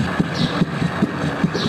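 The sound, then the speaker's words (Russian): A cat's heartbeat: quick, steady lub-dub thumps, about four beats in under two seconds, each a soft low pulse over a constant faint hiss. “Сердце кошки.”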